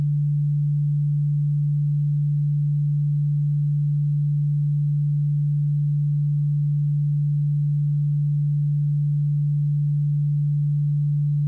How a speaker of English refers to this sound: Now, in your left ear, I am going to play a frequency of 146 Hz.